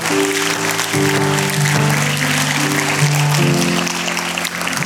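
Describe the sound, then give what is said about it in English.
Steady applause from a crowd, a dense crackle of many hands clapping at even loudness throughout, with sustained low musical notes shifting pitch underneath. “Man, yes, we can applaud for that.”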